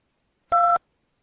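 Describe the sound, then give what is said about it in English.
A single touch-tone keypad beep, a clean dual-pitched tone lasting about a quarter second, sounding alone against silence. “For all other inquiries, please press 2.”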